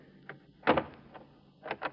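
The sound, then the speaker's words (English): A few sharp metallic clicks and clunks from a door lock and latch as the door is unlocked to let a woman in, followed by the thud of the door being pulled open, fairly quiet, with no voices. “Now listen, I'll unlock the door and let her in.”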